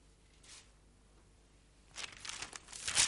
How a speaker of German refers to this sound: Ich musste ein bisschen blättern, um das zu finden.